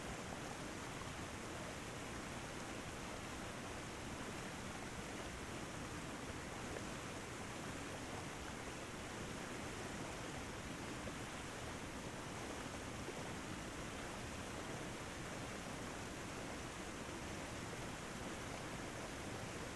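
waterfall

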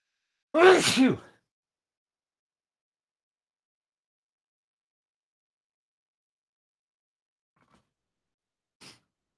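sneeze

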